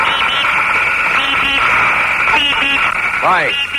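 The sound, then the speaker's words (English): A steady, buzzing radio signal from the Sputnik satellite, full of warbling electronic tones, with pairs of brief low beeps and a rising, swooping chirp near the end, loud throughout with no pauses. “Scientists listen to the Sputnik on the radio... what did they hear?”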